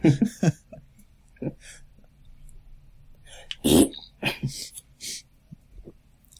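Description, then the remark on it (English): A person pointing a thumb down makes a series of short, wet raspberry-like bursts with the mouth imitating fart noises, with a louder, sputtering blast in the middle, separated by brief pauses. “… keeps pointing his thumb down and making poo noises. Making fart noises.”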